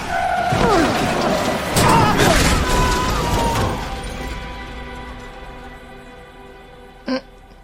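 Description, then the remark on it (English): A loud vehicle crash with screeching, grinding metal and several heavy impacts over the first few seconds, then a fading rumble and one sharp knock near the end. “It crashed?”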